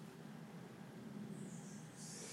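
A steady low rumble of a train at platform 2 as someone boards, with a thin high-pitched squeal rising faintly near the end, like wheels or brakes. No one speaks.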